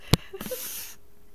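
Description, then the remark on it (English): A sharp, loud nasal snort bursts out, followed by a longer breathy sniff that trails off, with no talking. “Sounds like someone sniffing coke into their nose.”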